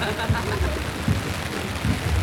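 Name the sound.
rain falling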